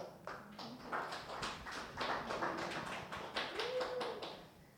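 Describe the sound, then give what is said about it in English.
Hands clap in a steady, even rhythm, sharp repeated slaps keeping time with a Christian version of "If You're Happy and You Know It" ("If you're saved and you know it, clap your hands"), while a faint sung tone rises briefly beneath the beat. “If you're saved and you know it, clap your hands.”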